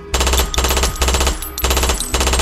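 Loud bursts of rapid automatic gunfire, four dense volleys of sharp rattling shots separated by brief gaps, with a heavy low rumble underneath and no voices.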